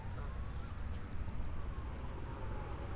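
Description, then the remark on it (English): A quick series of thin, high peeping calls from three baby ducks by a boardwalk rises over a steady low rumble of outdoor background noise, fairly faint. “Oh my goodness, there's three baby ducks right here by the boardwalk.”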